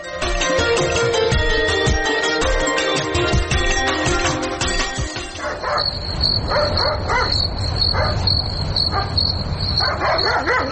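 A dog barks repeatedly in short, loud bursts after a dense stretch of tonal, music-like sound, with a steady high insect-like chirr running beneath the barking.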